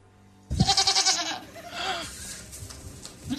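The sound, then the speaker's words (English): A person imitates a goat, letting out one loud, wavering bleat with a quivering, nasal tone, followed by quieter trailing vocal sounds, recorded in a studio. “that was a goat. That, and I did that. I made that noise.”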